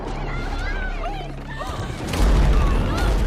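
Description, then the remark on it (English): A loud, deep explosion rips through a power plant building partway through, its heavy low rumble swelling over a busy background of voices and noise and then sustaining as the blast continues. “Explosions rip through the building.”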